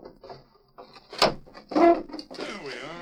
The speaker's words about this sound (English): Ooh, stuffy in here. I'll open the window.